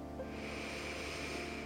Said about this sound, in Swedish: Vi tar ett andetag till in. Andas in djupt.